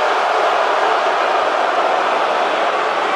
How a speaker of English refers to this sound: Oh, no, I'm sorry. They're booing so loud.